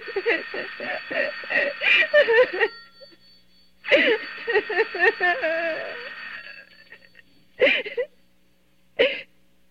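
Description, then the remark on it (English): A telephone rings, left unanswered, in two long bursts separated by a short pause, overlapping with a voice, then gives two brief clipped rings before falling silent. It sounds clear. “Let it go on ringing. It's a trick of some kind. And I won't answer it.”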